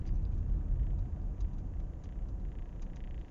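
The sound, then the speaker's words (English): Steady low engine rumble from inside a moving car, a dense continuous drone with a faint hiss on top and no voices. “I said I wasn't going to record in my vehicle, but I'm going to try this.”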